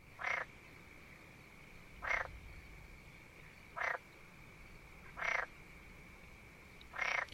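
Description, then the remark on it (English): A frog croaks five times at steady, evenly spaced intervals, each call a short raspy burst, heard alone over a faint, constant background hum. “a large green frog lived with many of his friends near a small pond where the tall trees, pretty flowers, and warm sun made it a most enjoyable place to play games like leapfrog and hopscotch”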